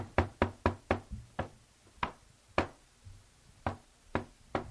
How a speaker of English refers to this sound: What the hell is that? Somebody's at the door, I think. Hold on. Let me go check. Who is it?